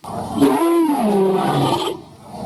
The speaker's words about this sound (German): Dazu ist es ganz hilfreich, wenn man sich tatsächlich mal heutige Großkatzen anhört oder zumindest heutige Katzen anhört. In der Tat klingen Löwen so, also ähnlich.